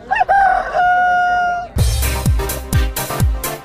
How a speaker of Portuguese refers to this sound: Canta Galo!